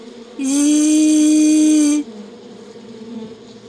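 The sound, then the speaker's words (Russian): A voice imitates a small mosquito flying in through a window, with one steady, high buzzing 'zzz' held for about a second and a half, loud, then stops. “Улыбнись ему в ответ и позвени.”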